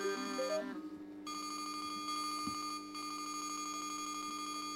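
A telephone rings with a rapid, warbling electronic trill that repeats steadily after a brief stepped melody at the start. It's clear, with no one talking.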